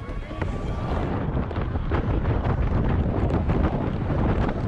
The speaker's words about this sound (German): Also hier saust er erst eine ziemlich hohe Halfpipe runter und dann hört man den Jubel, weil er eben den Salto geschafft hat.